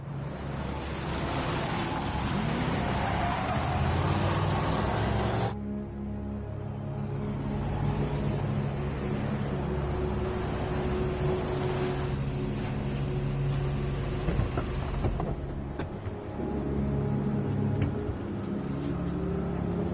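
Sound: car driving up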